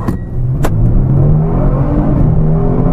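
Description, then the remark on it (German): A powerful sports car engine roars loudly and steadily as the car accelerates hard using launch control in Sport Plus mode with ESP and traction control off, with a couple of sharp clicks near the start and the engine note climbing slightly. “Launch Control bereit, Digga, der hat einen Launch.”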